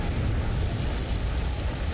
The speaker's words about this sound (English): What an explosion, huh? Yeah. The explosion was heard by every single person. I know, and everybody heard it.